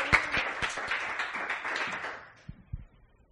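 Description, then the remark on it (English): An audience claps and cheers together for the Lord in a lively burst of applause that thins out over a few seconds, ending with a couple of scattered final claps. “Give the Lord a cheer.”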